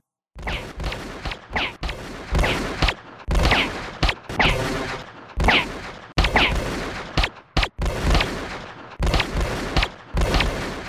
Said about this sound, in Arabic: فجأة انهمرت طلقات رصاص.